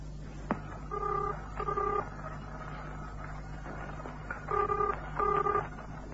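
Four steady touch-tone beeps as a phone number is dialed to call the Nichols Agency on an open line: two quick tones, a pause, then two more, over a low background hum, with a faint click before the first tone.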